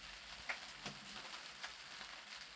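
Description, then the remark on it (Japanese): Steady, soft rain falls at a nunnery, hissing evenly with a few brief drip-like taps scattered through it, fairly quiet and heard on its own without any voices. “こんな雨の中、尼寺に何用でございましょう。”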